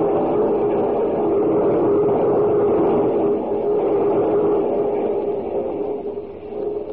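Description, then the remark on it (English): A steady, loud rumble of a moving train rolling along the rails, a constant dense roar that continues without a break and eases slightly toward the end. No one speaks. “Well, we've been through every car in the train.”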